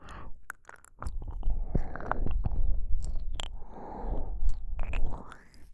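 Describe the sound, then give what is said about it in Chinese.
A metal zipper is pulled in slow, uneven strokes, giving scratchy ratcheting bursts broken by sharp clicks and soft rustling. Quiet throughout, with no voices. “金属拉链的声音。”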